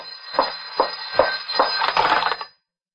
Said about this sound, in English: You hear that? The phone is driving me crazy. All right, answer it. I'll take the tape off. No, let it ring.